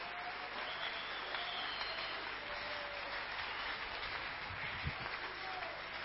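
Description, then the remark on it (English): A crowd applauds steadily for several seconds, clapping their hands for Jesus, a dense, continuous patter of many hands clapping, with faint voices and a few high cheers mixed into the noise. “If you understand anything I've spoken today, can you clap your hand for Jesus?”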